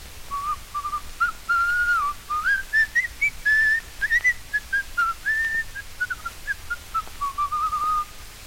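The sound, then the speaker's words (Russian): A house painter whistles a cheerful, wandering tune while repainting a whole fence, the melody rising and falling in short connected phrases for several seconds, with no talking. “И весело насвистывая, стал ко дню 1 мая весь забор заново красить.”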